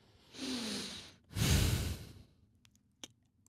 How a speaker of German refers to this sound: Ach so, ich dachte, mein schweres Atmen Richtung Mikrofon reicht aus.